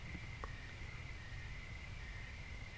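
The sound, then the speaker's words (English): A steady, high-pitched chorus of crickets chirping outdoors, continuous and fairly faint, with a low background rumble and no voices. “And you hear those crickets cricketing out there.”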